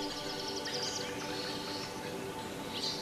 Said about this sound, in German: Es sind bunte Vögel in allen Farben und Formen, die fröhlich zwitschernd umherflattern oder es sich in den Ästen der Bäume gemütlich machen.